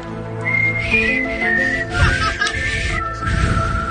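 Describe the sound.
A person whistles the theme tune of the TV show The X-Files, a slow, eerie melody with long wavering notes that glide up and down. The whistling is clear over a low background hum, with no talking.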